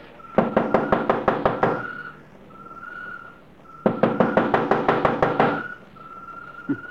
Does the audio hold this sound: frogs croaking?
no